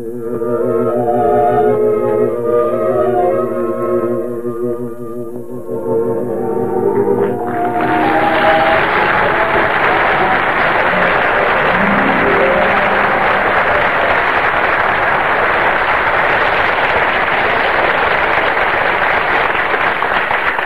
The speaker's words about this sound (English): I heard all that applause outside. You killed them. They loved you, huh?